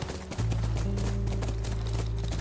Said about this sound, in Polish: To nasz koń!